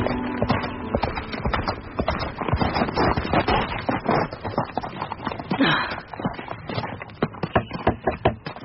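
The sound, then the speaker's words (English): Horse hooves clip-clop steadily, a brisk, continuous rhythm of sharp knocks like a horse trotting along with a rider, with no voices. “Stable boy, saddle a horse for me. I am going riding.”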